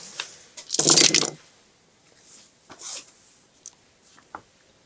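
A handful of thirteen dice rattle and clatter in a short, dense burst as they are rolled in a game, followed by a few scattered light clicks as they tumble and settle. No one speaks.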